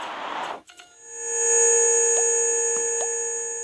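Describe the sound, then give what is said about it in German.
A brief noisy whoosh gives way to a loud, steady electronic hum with layered tones and a few quick blips, like a hovering UFO enemy, a flying pyramid, in a video game. No one speaks. “Oh Gott, UFO.”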